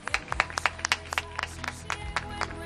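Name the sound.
applause from balconies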